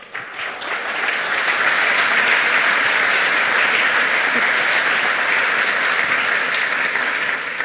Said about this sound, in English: Keep a warm applause